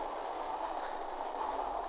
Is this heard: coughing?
no